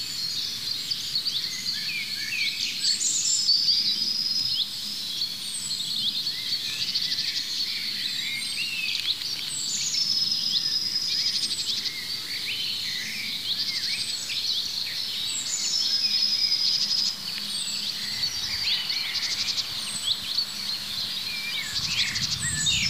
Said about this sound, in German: Dieses Huit, Huit, Huit, Huit, das fast wie Kontaktruf vom Zilzalt klingt, ist aber gepaart mit dem Pink am Ende. Es kann kein Zilzalt sein. Das ist der Buchfink, der Ruf, der bei uns eher wie Rüb, Rüb, viel rauer und rollender klingt.